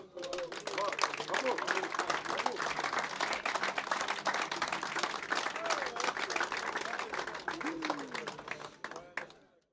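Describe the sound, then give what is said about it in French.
A crowd applauds steadily for almost ten seconds, a dense wash of clapping with scattered voices and shouts mixed in, fading out at the end. “Et pour ça, j'aimerais que vous applaudissiez tous.”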